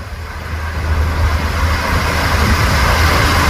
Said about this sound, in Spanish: Sí, el barranco corriendo.